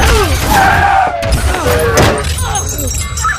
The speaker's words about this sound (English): As Jerry takes his eyes off the road, the Volvo is sideswiped on a crossing by an ambulance.